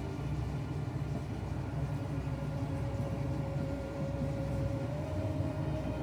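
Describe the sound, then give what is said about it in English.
A steady, continuous low rumble of a moving train carriage, with a faint whine running through it and the dense clatter of wheels on track, heard from inside throughout. “How long is this train?”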